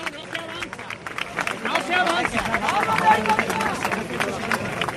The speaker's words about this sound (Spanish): Este es el sonido que hay ahora en el entorno del palio. Aplausos, la Virgen revirando sobre su propio eje, con la derecha adelante, con la izquierda atrás, y buscando nuevamente la avenida Federico Molina para volverse a su templo.